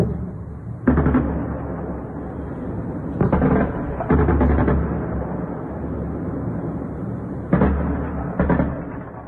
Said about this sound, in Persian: در شبکه‌های اجتماعی کاربران ویدیوهایی از شلیک ممتد ضد هوایی منتشر کردند.